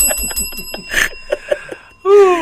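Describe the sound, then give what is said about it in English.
A bicycle-style bell rings in a quick series of bright, metallic dings, its high tones lingering, before a louder burst of sound cuts in at the end. “Ring that bell.”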